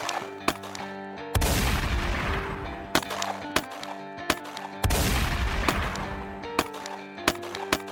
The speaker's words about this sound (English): But within just minutes, police officer William Remo Cody arrived at the back entrance of the bank and immediately started exchanging gunfire with Billy Burt.